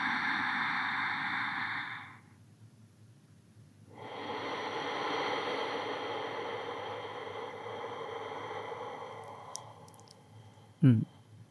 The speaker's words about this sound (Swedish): Mm. Vad fint. Alltså, jag blev direkt så här lugn. Men jag älskar ju ujjayi-andningen. Så du gjorde en ujjayi-andning egentligen, alltså där du aktiverar halsen. Alltså det som händer med den är ju att man försöker hela tiden förlänga.